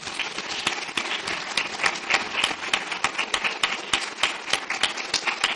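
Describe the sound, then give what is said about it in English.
An audience applauding to thank the event's organisers, with many hands clapping in a dense, steady crackle that holds at an even, moderate loudness for several seconds without any talking. “I think they deserve a huge round of applause for this.”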